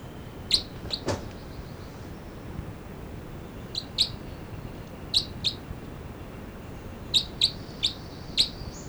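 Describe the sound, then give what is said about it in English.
Short, sharp high-pitched calls from two birds numbered 305, a male, and 306, coming in small clusters of two or three with brief pauses between, heard over a steady hissing background with no talking. “305 and 306 here, and these are calls of it's 305 and 306.”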